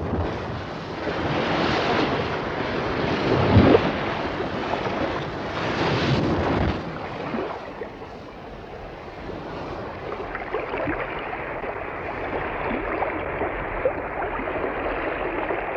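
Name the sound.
sea waves and wind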